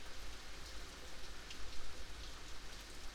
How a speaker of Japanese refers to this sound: 結構雨降ってるからなのか人通りも少ない。